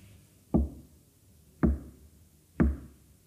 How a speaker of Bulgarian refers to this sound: Хей, кой чука на портите ни? Далечен пътник.